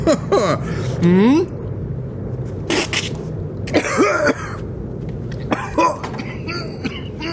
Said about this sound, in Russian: Бизнесмен попытался повторить, поперхнулся и долго кашлял.